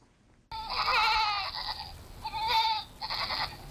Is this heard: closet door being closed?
no